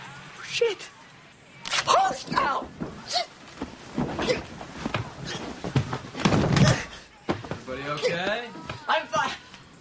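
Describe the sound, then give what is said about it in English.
A body thuds heavily onto the floor, falling out of a bed, with a few dull bumps and knocks scattered among people talking and exclaiming. “I just fell out of the bed.”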